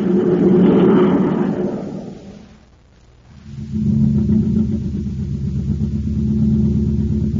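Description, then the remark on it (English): A surface car's engine, running on ordinary fuel, rumbles loudly and steadily, fades briefly to a near lull, then settles back into a constant low, throaty drone with no voices. “This surface car has just got ordinary fuel in it.”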